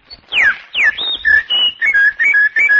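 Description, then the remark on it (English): A person whistles a lively birdlike twitter, with quick downward-sliding chirps giving way to a run of short, bright warbled notes, loud with no talking. “I whistle and twitter and sing like a bird.”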